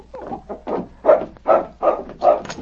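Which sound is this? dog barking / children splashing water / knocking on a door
dog barking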